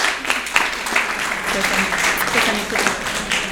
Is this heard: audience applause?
yes